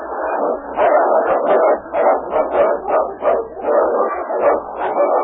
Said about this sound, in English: listen, there's a dog's bark. Can you see? That last one. It is a dog. Why, he's fighting the tower side. He's helping him.